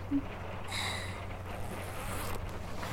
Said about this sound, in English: Do you want to get more hands-on and help me out of it? Just slide the zipper down.